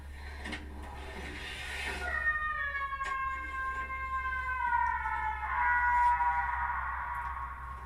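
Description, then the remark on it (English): A door in a movie creaks open with a long, drawn-out, high-pitched squeal that slowly bends in pitch, then a second shorter squeak follows, over a low steady hum with no one talking. “That was the door.”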